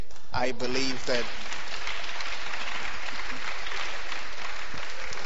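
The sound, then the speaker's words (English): An audience claps in a dense, steady wash of applause lasting several seconds, with a short burst of voice near the start rising over the clapping. “The people on the left are not clapping.”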